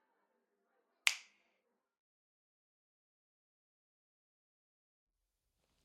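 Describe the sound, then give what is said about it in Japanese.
A single sharp finger snap, used as a hypnosis cue, rings out crisp and bright with a quick decay, followed by silence; faint murmuring is barely present beforehand. “もう一度パチンと鳴ったら、私の声だけ聞こえます。”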